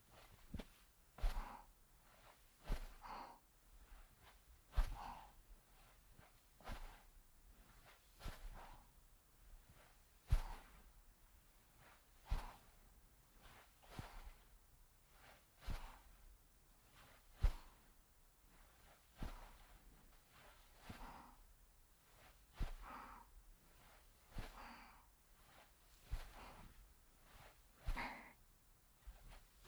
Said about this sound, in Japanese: ふみふみ、そうです、ふみふみ、ふみふみ、続けて太ももからふくらはぎへ向けて足踏みしますね。